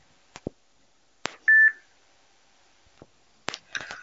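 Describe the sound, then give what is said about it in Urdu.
A phone line cuts off with one short, loud electronic beep tone, framed by a few sharp clicks and brief knocks, as a call to a live call-in program is hung up. Nobody speaks. “آپ کے لیے دعا کر کے ایک فون بند کر رہا ہوں.”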